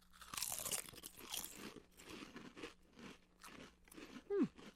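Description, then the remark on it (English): Loud, crisp crunching of spicy barbecue-style chips being chewed, with irregular bursts of crackly bites that gradually soften, ending with a short low vocal hum. “Chip cheers. Chip cheers.”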